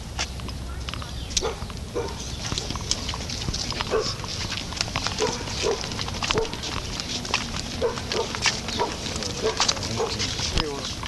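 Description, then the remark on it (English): A dog that attacks everyone who comes by barks and snarls aggressively in rapid, irregular bursts throughout, loud, amid a chaotic scuffle as people try to get the dog away, with other voices and commotion mixed in. “This dog is after everyone. He attacks everyone that comes by, and the lady gets angry when they try to get the dog away.”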